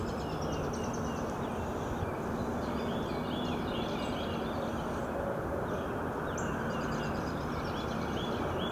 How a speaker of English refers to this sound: The call and response of the birds.